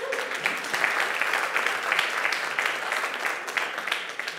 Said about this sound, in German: Dankeschön für das tolle Video. Ich finde, das ist nochmal einen Applaus wert.